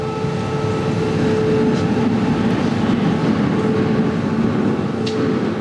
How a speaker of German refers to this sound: Auch immer schöne Geräusche, wenn der rumpelnde Fahrstuhl hier nach unten geht. Ja, absolut, absolut. Das war mir als Kind unheimlich, hier mit dem Auto zu stehen und dann runter zu ruckeln. Elbtunnel war immer ein Abenteuer.